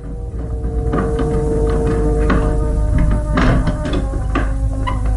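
A bedroom door in an old castle slowly opens with a few scattered wooden knocks and clunks, set over a loud, steady low droning hum that runs throughout. No one speaks.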